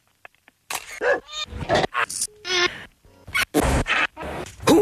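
Seagulls call repeatedly in loud, harsh squawks of shifting pitch, mixed with rough bursts of sea waves, after a few faint clicks at the start.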